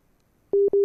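A steady electronic busy tone after a WhatsApp call drops during a live radio broadcast, two loud sustained beeps with a brief gap between them, starting after a moment of near silence.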